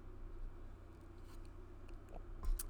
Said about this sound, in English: Sip a bourbon here.